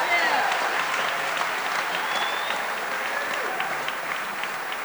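Steady audience applause at Merlefest, a dense, even patter of many hands clapping at a fairly loud, constant level with a few faint whoops mixed in, as the audience applauds a host for putting the event together.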